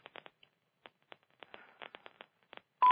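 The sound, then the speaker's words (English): A single short, loud electronic beep sounds at the very end, a conference call chime as a caller joins the line, after a run of scattered faint clicks and line noise with no talking. “You guys that are coming in, that are beeping in”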